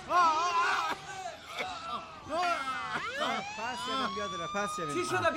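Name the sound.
ambulance siren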